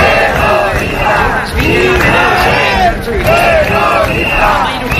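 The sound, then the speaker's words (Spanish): A crowd of hundreds of protesters in Bilbao, Spain, at the Vuelta a España cycling race shouts together in loud, rhythmic chants such as "Israel terrorista", many voices rising and falling in repeated bursts with a constant roar of babble underneath. “Estos son los gritos ayer, de cientos de personas en Bilbao.”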